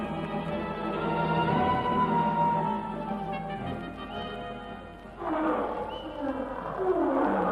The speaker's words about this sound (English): It was a lion, wasn't it? Yes. Wait till I reload my rifle. Do you think it was close to us? No, but it was ahead.